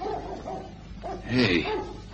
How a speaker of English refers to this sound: Hey, you hear that? Dog somewhere. I've been hearing it all morning. A dog? A hound?